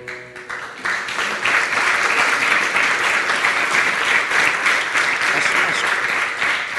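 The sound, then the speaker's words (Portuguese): A crowd breaks into sustained applause after a brief quiet start, the dense clapping holding steady and fairly loud for several seconds without fading. “Que este vídeo merece, de facto, uma grande salva de palmas, porque não só está muito bem feito do ponto de vista estético, como deixa aqui três ou quatro mensagens que me parecem muito relevantes.”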